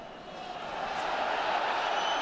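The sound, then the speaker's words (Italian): A large stadium crowd of fans at a Roma football match roars and jeers in protest, a dense wall of noise that swells louder over a couple of seconds, with no distinct voices standing out. “Protestano i El Shaarawy, tifosi.”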